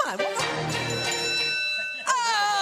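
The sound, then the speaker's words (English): A bright debate timer bell, which signals that a candidate's speaking time is over, rings out with a sustained, shimmering tone, then is struck again about two seconds later, clear, with faint voices murmuring underneath. “The bell lets us know when a candidate is done with their 1 minute, 2 minute, or 30 second.”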